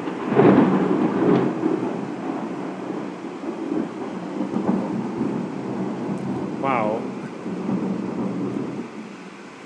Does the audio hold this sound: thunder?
yes